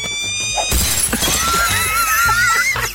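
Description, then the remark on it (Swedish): A peregrine falcon crashes through a window: a sudden loud burst of shattering glass, then tinkling debris mixed with shrill, rising and falling bird cries that continue for about two seconds. “Ja, det är en pilgrimsfalk som flyger rakt genom fönstret.”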